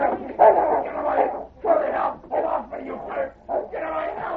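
A large dog pushes open a door and leaps at a man, barking and snarling aggressively in a rapid series of rough, overlapping bursts, fairly loud, with brief pauses between outbursts.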